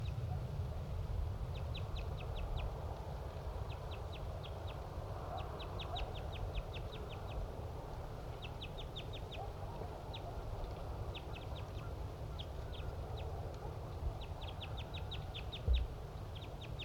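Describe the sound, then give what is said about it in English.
Wild birds call in quick bursts of high, rapid chirps that repeat throughout, fairly faint over a steady low rumble of background noise. “Wild bird.”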